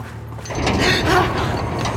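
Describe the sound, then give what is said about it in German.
A heavy mechanical grinding and rumbling builds and sustains as the roof of a hall in an underground hangar slides open, loud and continuous with metallic scraping overtones. “Das Dach der Halle öffnet sich.”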